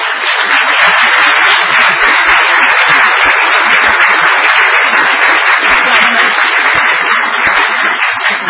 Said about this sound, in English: It's all because of his effort, and he deserves a big round of applause.